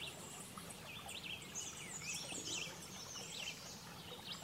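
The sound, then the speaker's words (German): Several birds sing and chirp at once in a forest, their overlapping high warbling calls coming from various directions over a soft, steady outdoor background with no talking. “Aus verschiedensten Richtungen kannst du den Gesang der Vögel hören.”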